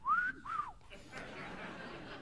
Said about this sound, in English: I can't even whistle.